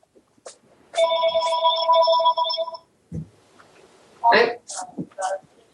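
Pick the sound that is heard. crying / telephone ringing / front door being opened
telephone ringing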